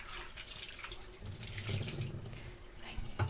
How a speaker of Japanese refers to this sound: ミニトマトはヘタを取ってから洗います。ヘタの周り結構汚れがついているので、ヘタを取ってからお水で洗います。洗っています。